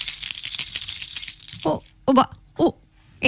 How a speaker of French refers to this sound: Est-ce que j'ai entendu quelqu'un devant la porte qui a sonné à la clochette? Oui, mémé. Est-ce que c'est toi, ma petite fille, qui est là et qui a sonné à la clochette?